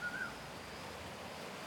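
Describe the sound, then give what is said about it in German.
A soft, steady wash of small waves rolling slowly onto a beach on a small Seychelles island in the Indian Ocean, continuous and fairly quiet, with a brief high bird whistle near the start. “Das leise Rascheln der Palmen, die langsam an den Strand rollenden kleinen Wellen, das Singen exotischer Vögel.”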